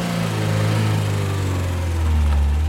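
A camper van engine starts and runs with a steady, low rumbling drone, holding an even throb throughout with only a slight swell near the end and no voices.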